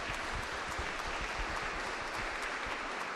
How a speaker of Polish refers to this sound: Witamy bardzo serdecznie, myślę, że dla każdego cześć, należą się brawa.